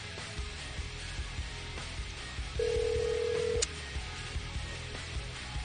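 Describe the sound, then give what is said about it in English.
One steady, buzzing ringback tone sounds for about a second on an outgoing phone call, rising clearly above a low background hiss, with no one talking. “Come on, pick it up. Don't make us move on to the next number.”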